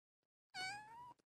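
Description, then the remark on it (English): A single clear meow from a little female cat, fairly loud, lasting just over half a second with a steady tone that dips slightly, followed by a brief soft click; no talking. “For those who are only hearing this, you got to go to the video and see this little kitty right here.”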